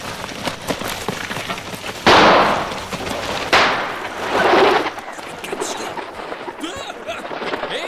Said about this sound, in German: Warum schießt du? Ich dachte, da wäre jemand in den Büschen versteckt.